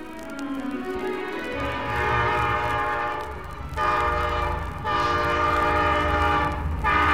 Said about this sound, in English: A train. And the Scarecrow's truck beat us across the tracks. We'll have to stop.